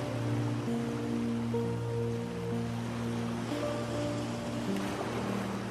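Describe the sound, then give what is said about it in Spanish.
Soft, continuous wash of sea waves coming and going on the shore of a tropical sandy beach, steady rather than crashing, blended with sustained gentle musical tones humming underneath. No one speaks. “La arena suave se extiende por toda una playa tropical, juntándose con las olas del mar que van y vienen en la orilla.”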